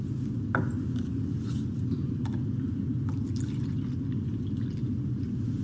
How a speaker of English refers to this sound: I'm going to go ahead and pour up grape juice for Robert and I.